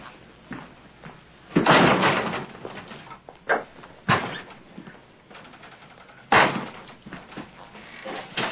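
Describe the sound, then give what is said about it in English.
A heavy door slams shut with a loud, booming thud, followed by two more sharp bangs a couple of seconds apart, against a low background rumble. “The door's way too heavy, sir.”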